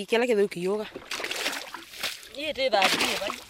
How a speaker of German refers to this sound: Die junge Frau schöpft Wasser aus dem Loch, bis ihre Kanister voll sind.